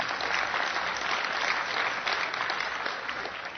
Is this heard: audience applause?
yes